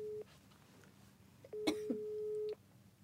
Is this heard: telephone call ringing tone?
yes